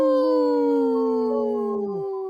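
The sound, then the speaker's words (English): A single sustained wolf howl, loud, holding a steady pitch before sliding downward and trailing off near the end. No voices accompany it. “We always want to talk about our Wisconsin wolves, too, for sure.”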